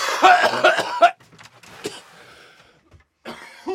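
People coughing: a loud burst of rapid, harsh coughs, then a few quieter scattered coughs and throat noises, and one more cough flaring up at the very end.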